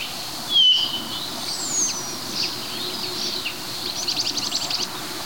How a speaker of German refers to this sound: Dass hier sehr viele verschiedene Vögel durcheinander knallen. Also wir haben den Kleiber, wir haben den Star, wir haben Bluthänflinge, die rüberfliegen. Ab und zu das grelle Lachen des Grünspechtes, den Kranich, der im Hintergrund ab und zu schreit.